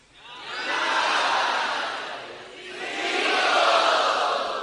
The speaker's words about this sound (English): The devotees screamed out,